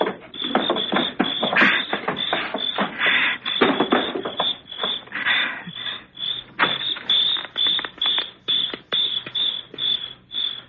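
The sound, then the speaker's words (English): A heavy table in front of a door is shifted away from it, with repeated creaks, knocks and rough scraping bursts continuing steadily for several seconds, no voices present. “Now help me with this table in front of the door. I don't want to slide it.”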